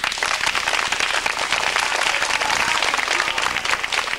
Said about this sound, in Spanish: Pedimos a los compañeros … que si pueden pasar a cantar unas canciones mientras arreglamos la planta. ¡Un aplauso, pues!